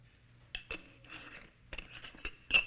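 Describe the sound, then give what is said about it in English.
Two glass jelly jars, each holding a slip of paper, clink and knock together several times in short, irregular bursts as they are brought out for an object lesson, with faint rustling between the sharp contacts and no talking. “I have two jars, jelly jars, and in this one, I have a slip of paper that says the Law and the Prophets.”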